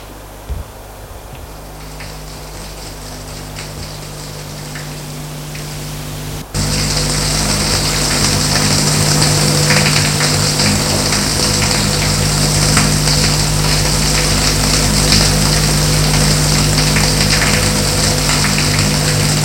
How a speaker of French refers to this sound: Et puis, il va dans la salle de bain prendre une bonne douche.